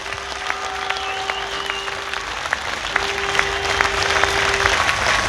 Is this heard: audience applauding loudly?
yes